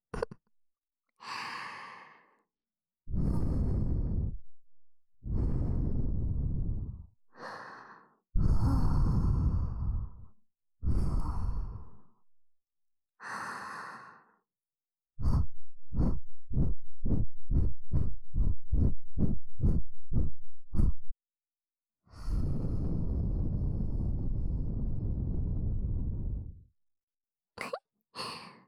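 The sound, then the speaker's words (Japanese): Soft breaths blown into the ear to tickle it, a series of long airy exhales separated by pauses, then a quick run of short rhythmic puffs before a final long breath. “眉の吐息で耳よくくすぐりの系だよ。”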